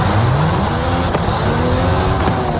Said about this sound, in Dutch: Klinkt een beetje als een taxi. Nou ja, een Formule 1 motor notabene, want dit is de Mercedes AMG One. Oh, oké. Waar ze dus de Formule 1 motor 1,6 liter V6